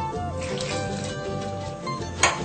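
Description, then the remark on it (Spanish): Water pours in a steady, splashing stream for a couple of seconds, with a faint hum underneath and a brief sharper splash near the end, as a good amount of water is added to a strawberry cream recipe. “Ah, una buena cantidad de agua.”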